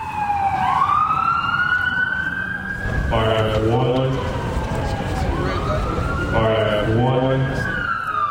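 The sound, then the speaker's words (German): Police sirens wail loudly, long rising and falling tones sweeping over one another, joined by short bursts of a harsher stacked horn tone that repeats twice, as the sirens are tested at the Capitol ahead of a presidential inauguration. “Die Mikrofone und die obligaten Polizeisirenen werden getestet.”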